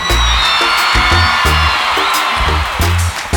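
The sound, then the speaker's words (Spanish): A loud crowd cheers and applauds for a musician, with whoops and a whistle rising above the roar, while a pounding bass-heavy music beat thumps steadily underneath. “Y para mí es un gran honor, así que un fuerte aplauso para este maestro.”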